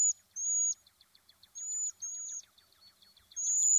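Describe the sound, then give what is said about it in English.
Cedar waxwing song: thin, very high-pitched drawn-out whistles, each held under half a second, separated by rapid, faint ticking notes. No voices are present. “Often, the best way to know they're around is by their song.”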